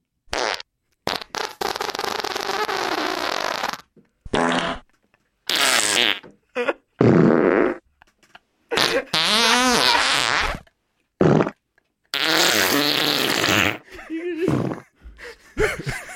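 A track of recorded fart sounds played as a song: a rapid series of loud fart sounds, some long and buzzy, others short bursts, separated by brief silences, with no talking.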